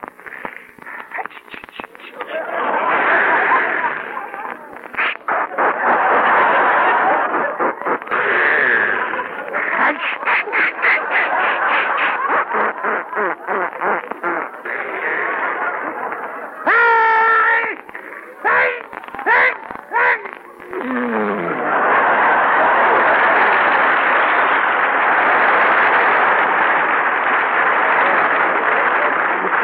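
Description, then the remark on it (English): A voice imitates a sneeze as a sputtering outboard motor: a long, loud, rapidly pulsing buzz with a few sharp breathy bursts and a rising squeal, then another sustained rasp. “I call this the outboard motor type. People with pivot teeth or bridge work should avoid this sneeze, as even shreds of tonsils have been known to give way.”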